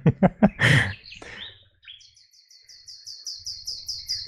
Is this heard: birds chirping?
yes